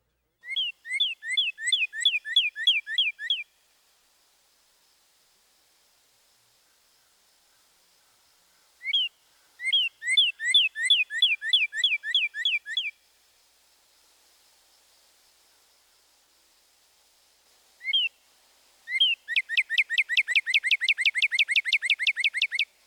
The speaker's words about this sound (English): Another typical cardinal vocalization is a two-syllable whistle. We can represent this as purdy, purdy, purdy.